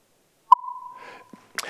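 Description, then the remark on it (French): A time-reversed underwater acoustic signal, made by taking signals reverberated in the sea and sending them back reversed in time, as heard by the person receiving them: a sharp click opens a steady mid-pitched tone that holds for about a second, with faint hissy texture around it, then a brief noisy burst ends it. “Et maintenant, on prend ces signaux, on les renvoie retourner temporellement.”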